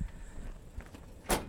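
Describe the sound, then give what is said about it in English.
A door closes or clicks once with a quick, sharp burst near the end, after a stretch of quiet background noise and faint low rumbling. “Do you like doors?”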